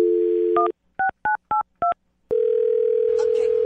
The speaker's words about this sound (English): All right, well, I'll dial her phone number right now, get her on the phone, and find out why she's not calling you back.